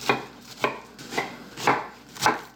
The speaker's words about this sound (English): So now we have got some garlic. Yes, we're going to mince the garlic, and we're going to mince the ginger, and that's going to go all inside of the gyoza.